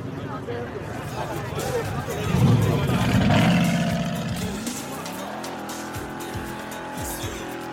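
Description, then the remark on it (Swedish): An old American Chevrolet car engine roars and revs up loudly, peaking mid-way, with tires squealing, then settles into a steady idle rumble; a murmur of voices and crowd noise runs underneath. “Du kan lägga in något ljud från det,”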